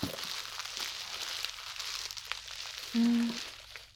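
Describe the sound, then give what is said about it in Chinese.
Someone unwraps a bubble-wrap mailer, a steady soft crinkling and rustling of plastic dotted with sharp little crackles, with a brief low buzzing tone near the end and no one talking. “寄件人还真细心呢，用气泡袋包得这么扎实，完全看不出来是什么。”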